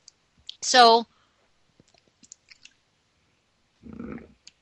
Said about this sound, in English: Took a sip of water. That's the advantage of you not being able to see what I'm doing.